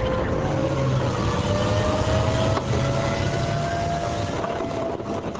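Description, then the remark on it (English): A 70-ton M1 Abrams tank, driven by a soldier, turning sharply in sand, a loud, steady engine roar with a high turbine whine that slowly climbs in pitch over a deep rumble. No voices. “An Abrams M1 tank turns sharply in the sand.”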